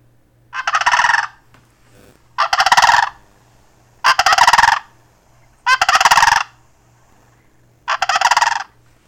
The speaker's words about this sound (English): it was really fun to, like, wake up in the morning to their prehistoric dinosaur sounds. Like, if you have never heard a sandhill crane make a noise, let's see, I'm gonna just pull it up on my phone because it is just the coolest noise.